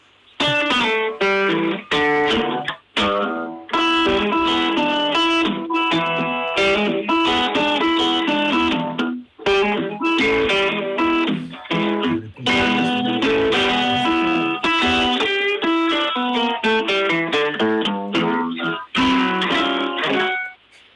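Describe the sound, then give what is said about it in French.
An acoustic dobro guitar plays a steady, bright blues line in the key of E in open tuning, plucked, ringing notes and chords, loud and unbroken except for a few brief pauses, with no voices over it. “c'est quoi ça? Dobro, acoustique.”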